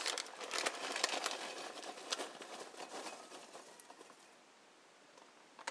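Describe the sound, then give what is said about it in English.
Crunchy granules pour into a pasta bowl in a steady, dry rustling patter dotted with small clicks, tapering off toward the end with a final tick. No one speaks. “Okay, and I'm going to pour it into a bowl that I have here. Pasta bowl.”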